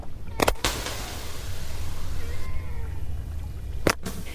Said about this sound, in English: These are right whales again, but they make sounds other than what we heard earlier. Sounds like screams, which are thought to be produced by female right whales.